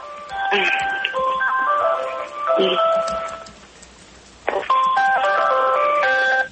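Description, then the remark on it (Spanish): A melodic phone ringtone plays a bright, chiming tune loudly, an incoming call for a woman, sounding in two phrases separated by a short pause, with faint background noise underneath. “Conteste el teléfono, por favor.”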